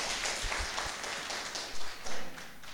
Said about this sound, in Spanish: Bien, vamos a recibir entonces con un aplauso a la compañera ministra de Comunicación. Un fuerte aplauso, por favor.